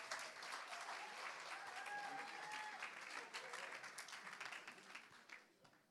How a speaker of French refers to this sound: Allez là-bas, on va l'applaudir.